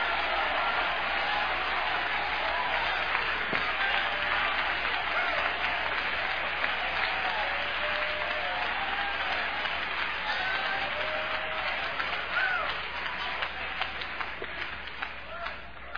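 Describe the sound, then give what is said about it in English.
An audience claps its hands together, a dense, steady wash of clapping that holds at an even, fairly loud level for the whole stretch, easing off slightly at the very end. “I thought I'd tell you, we got some hand clapping over here.”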